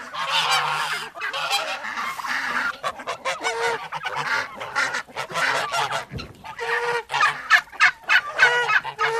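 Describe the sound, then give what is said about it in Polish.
A female turkey calls repeatedly in loud, nasal bursts, with other fowl (chickens, ducks, geese, turkeys and guinea fowl) clucking and honking in a busy barnyard chorus and no one talking. “Tutaj słychać panią indyczkę.”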